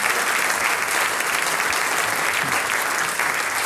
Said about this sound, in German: Steh auf einmal, grüß dich Gott, der Applaus gehört dir mit deiner ganzen Truppe.